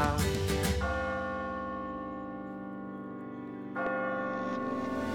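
Bells ring out with a cluster of quick strikes, then a long, resonant hum that slowly fades before another clear strike near the end. The ringing is fairly close and full, with no voices.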